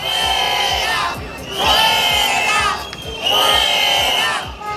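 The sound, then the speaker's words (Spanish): A loud crowd of neighbourhood residents protesting to demand security in their neighbourhood shouts in unison, their massed voices rising in three sustained, chant-like swells with brief dips between them, with rhythmic thumps underneath. “Ayer se manifestaron para exigir seguridad en el barrio.”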